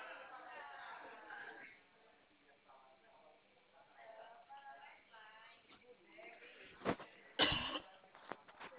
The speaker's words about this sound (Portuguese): tô tossindo muito, já tomei chá, mas até agora eu não Ah, melhorei.